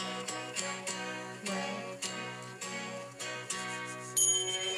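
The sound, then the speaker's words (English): A song intro where a bright, ringing triangle chime strikes at a steady pulse over warm sustained instruments. The hits are clear and moderately loud, with a shimmery high ring near the end. “Triangle or bell. Triangle.”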